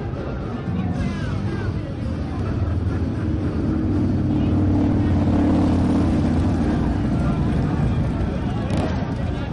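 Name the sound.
motorcycle engines revving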